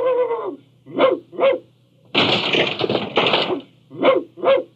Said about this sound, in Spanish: Don Macario ladró preguntando qué buscaban los visitantes, pero solo recibió como respuesta una violenta cornada que le obligó a salir huyendo con una pata coja.